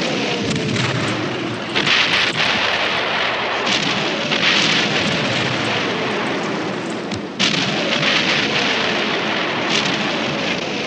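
A dense, continuous roar of explosions booms, with heavy bursts every few seconds and a steady patter of falling earth and debris like a downpour between them, as large clods of earth rain into trenches where soldiers take cover.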